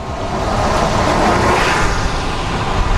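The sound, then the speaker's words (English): A steady, loud roar of city traffic rushing past on the 5500 block of West Belmont Avenue just before Central, in Belmont Cragin, 30th Ward, Chicago. A continuous wash of engine and tire noise with no pauses and no voices. “The traffic flows on the 5500 block of West Belmont Avenue just before Central.”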